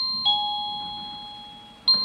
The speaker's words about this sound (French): Au deuxième coup de sonnette, les machines à coudre s'arrêtent, la quinzaine de salariés se rassemblent pour